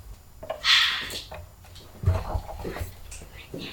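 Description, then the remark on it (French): A door is pushed shut with a dull thud after a brief hiss of movement, then a few small metallic clicks as a key turns in the lock, with faint whispering. “Oh, on a oublié de fermer la porte à clé.”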